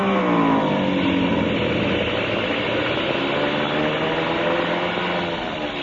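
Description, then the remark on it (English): A loud, steady engine roars for several seconds as the skipper's craft comes in fast, its pitch shifting slightly, with a dense mechanical drone and no voices; the engine has been acting up. “Engine been acting up. I was afraid to trust it.”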